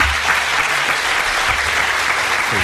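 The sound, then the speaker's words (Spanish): A crowd of Spanish football directors and assembly members applauds the Women's World Cup champions, a dense wash of many hands clapping at an even level throughout, with about half of those seated not clapping, a faint low murmur underneath and no clear speech. “Hi ha força gent que no aplaudeix, hem de dir, també.”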